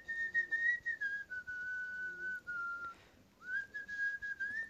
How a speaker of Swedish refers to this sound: Du försökte ju vissla den här låten. Vi får in ett lite bättre exempel på vissling.